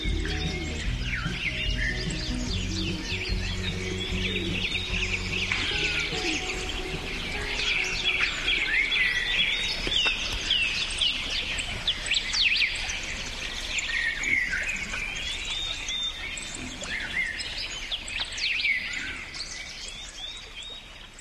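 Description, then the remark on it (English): A dense chorus of birds singing, with overlapping chirps and warbling calls that continue steadily throughout, moderately loud, with no voices present. “This episode of Big Picture Science is called For the Birds, and we want to thank them for lacing the world with beauty and filling the skies with song.”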